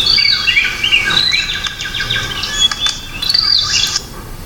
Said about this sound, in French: Et vous savez ce que j'adore à Nairobi? C'est lorsque vers 18h, au moment où le soleil commence à décliner, les oiseaux, comme pour marquer la fin de la journée de travail, se lancent dans une sérénade endiablée.